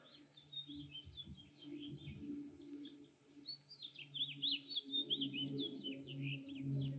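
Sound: birds chirping outdoors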